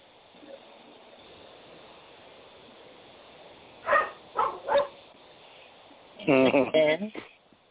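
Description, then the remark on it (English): A dog lets out three quick, sharp barks over a low steady hiss, then, after a short pause, a louder cluster of rapid, higher-pitched barks and yelps. “No, the dog barked after she said, go ahead”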